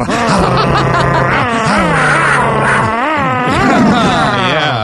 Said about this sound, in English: What is that? Oh, you're like growling. You're like an animal.